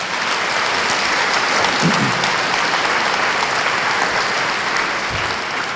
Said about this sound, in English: Let's give Tlingit Haida a cheer.